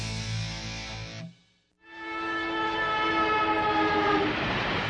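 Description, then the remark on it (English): A train rumbles past, its horn blaring in a long, loud harmonic blast, breaks off briefly, then sounds again over the steady roar of rolling wheels. “Trains and Tracks are gone near Vaughn's Printers, but Vaughn's is still your full-service printer.”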